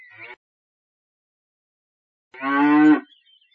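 A single loud cow moo, about half a second long with a rich harmonic tone, after a brief silence, preceded by a short faint snippet of another sound.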